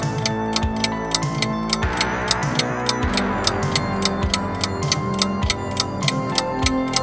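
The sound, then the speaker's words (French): A game's countdown timer ticks in a fast, steady rhythm, each click crisp and prominent, layered over a continuous bed of music with deep bass notes. No one speaks. “Il faudra enlever le tic-tac pour remettre la musique.”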